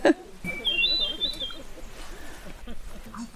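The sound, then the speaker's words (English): A hermit thrush sings one clear, flutelike phrase that rises and wavers for about a second, while people talk quietly in the foreground. “And there's a hermit thrush.”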